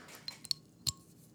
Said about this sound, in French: Et bien, je me suis dit, je vais la déboucher. Cette fois-là, c'est pas une canette, par contre, c'est une bouteille. J'espère que l'effet va être aussi réussi au micro, donc ça va comme suit.